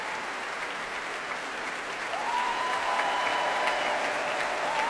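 Sustained applause from a large Proms concert audience for the BBC Philharmonic after a Tchaikovsky symphony, as principal players are brought to their feet: a dense, steady clatter of clapping that swells slightly, with a faint whistle-like tone rising briefly through the middle.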